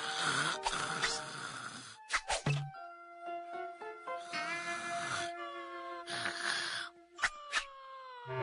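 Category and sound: human body sound, snoring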